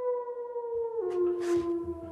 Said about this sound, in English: It was no longer the loud, defiant howl I had heard so often, but a long, plaintive wail.